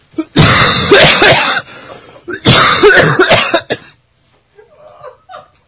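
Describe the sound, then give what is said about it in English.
Two loud, harsh, phlegmy coughing bursts clearing phlegm from the throat, each a rough throat-clearing hack lasting about a second and a half, followed by a few faint, softer throat sounds trailing off. “Sometimes you just gotta get clear that phlegm out of your throat.”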